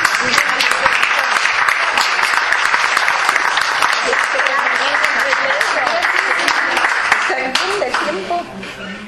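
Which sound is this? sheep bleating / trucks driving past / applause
applause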